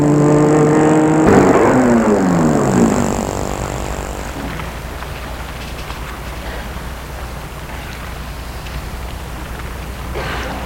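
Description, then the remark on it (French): A car engine hums loudly, then its pitch drops as the car slows and stops in front of an entrance, settling into a quieter, steady rumble after about three seconds, with no talking. “Il va arrêter sa voiture devant l'entrée.”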